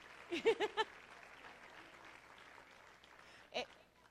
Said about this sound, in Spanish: denle un aplauso a la gente que cumple años